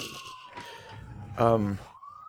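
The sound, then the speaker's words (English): An emergency siren wails steadily, its tone sliding slowly down and then rising again, while a person's voice briefly talks over it midway. “Oh, while we wait for the siren, would you mind plugging in the computer?”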